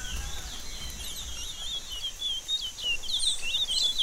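caged songbird singing

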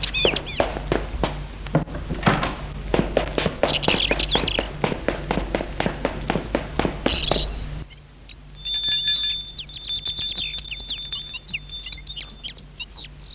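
running footsteps

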